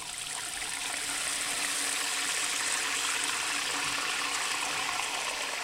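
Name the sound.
water running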